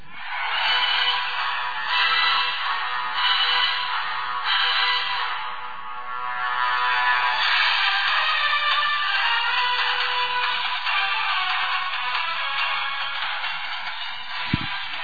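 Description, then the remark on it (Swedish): A tinny polyphonic ringtone plays a film theme melody through the small speaker of a new Sony Ericsson P800 phone, steady and fairly loud for about fifteen seconds, with no voices. “Det är Sony Ericssons nya telefon P800 som har en del kul”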